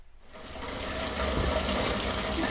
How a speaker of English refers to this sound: In California the past few weeks, that's become a pretty familiar sound. It's been raining here. Lots.